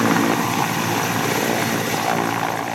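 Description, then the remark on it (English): A massive white UN World Food Program helicopter roars steadily at Lekai airport as it discharges cargo and passengers in the grass at the end of the runway, its dense rotor and engine noise filling the whole clip at a constant, loud level with no voices. “A massive white helicopter from the UN's World Food Program discharges cargo and passengers in the grass at the end of the runway.”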